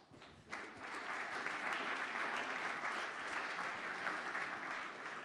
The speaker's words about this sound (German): Ja, ein Applaus.